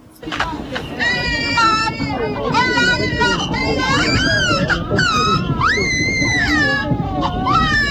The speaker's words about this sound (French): Qu'est-ce qui lui arrive à cet enfant? Il pleure, il se cherche une maman, ce joli petit bébé là. Il voudrait se trouver une maman pour Noël.